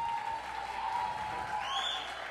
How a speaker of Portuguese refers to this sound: Palmas.